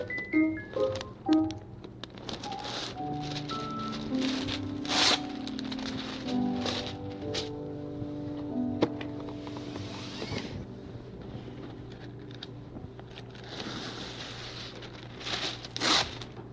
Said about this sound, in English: First of all, some wax paper. Can hardly see through wax paper.